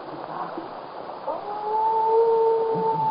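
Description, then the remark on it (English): Wolves howl: a long, steady, mournful note with a second lower voice alongside, rising out of a rumbling background after about a second and holding to the end. No one speaks. “Those wolves, they have lost their leader.”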